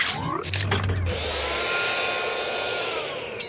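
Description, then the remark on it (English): A steady, high-pitched motorized whirring as claws are used like a blender to mix a chocolate milkshake. It runs continuously for a few seconds, with a few short clattering bursts near the start and a low hum underneath. “You can use your claws like a blender, sir.”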